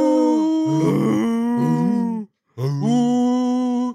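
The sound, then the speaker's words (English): A dragon's low, moaning foghorn-like call, forced out of a long, conical, fleshy pit and rich in harmonics, sounds loudly in two long sustained blasts with wavering, gliding pitch, separated by a brief silence. “It maybe sounds a little bit like a foghorn, actually. Or like a tornado siren.”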